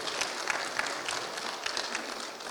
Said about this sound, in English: Happy Mother's Day to all the moms. We've got some special moms in the house, don't we? We have some. You can clap. Clap for the moms.